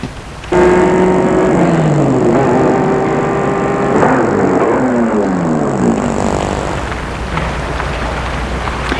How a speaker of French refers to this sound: Une voiture s'est garée devant le portail de la maison de Nathalie.